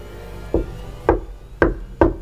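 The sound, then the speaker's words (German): Four firm knocks on a locked wooden door along a corridor in a tower, evenly paced about half a second apart, each a hollow, resonant thud over a low steady rumble, with no voices. “Mach die Tür auf und verhöhne mich nicht mit dem Klopfen.”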